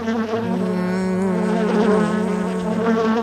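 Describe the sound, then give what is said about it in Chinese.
A little bee buzzes steadily for a few seconds as it flies upstairs in a Winnie the Pooh story, its droning hum wavering slightly in pitch, with no voices around it. “接着小蜜蜂嗡嗡嗡嗡地飞到楼上去了。”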